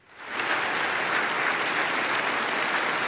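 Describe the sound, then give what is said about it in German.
Sustained applause from a large crowd at the Nobel Peace Prize ceremony in Oslo City Hall, for laureate Maria Machado's daughter, rising quickly over the first half second and then holding steady as a dense, even wash of clapping with no voices standing out. “Applaus für die Tochter.”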